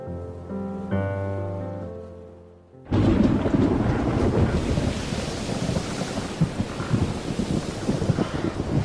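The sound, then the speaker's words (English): A few seconds of soft sustained musical chords give way abruptly to a loud, continuous roar of wind and storm over the Atlantic Ocean, with rumbling thunder and crashing surf, no voices. “A war raged between the Atlantic and the angry skies above.”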